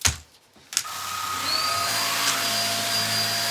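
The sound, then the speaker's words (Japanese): A cordless vacuum cleaner starts with a couple of clicks and spins up into a steady whirring whine that holds at a constant level as it vacuums up loose hair, no voices present. “このコードレスタイプの掃除機がめちゃくちゃ便利で、やっぱ紐で引っ張ってくるとさ大変だったりするからさ、本当に楽だなって思う。”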